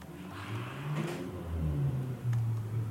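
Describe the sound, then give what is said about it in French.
Car engines driven by local youths rev and accelerate along a street they use as an improvised karting track, their pitch rising and falling in steady surges, loud and continuous with no voices over them. “Parce que les chebabs, les jeunes du coin, transforment ma rue en piste de karting improvisée.”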